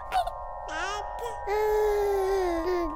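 A recorded baby vocalizes in a series of drawn-out, wavering cries and fussy babbling sounds, fairly loud, with brief pauses between the strained, tonal wails.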